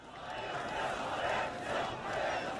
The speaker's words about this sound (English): A new internet-savvy generation was demanding change. The frustration on the streets came in new voices, shouting for bread and freedom.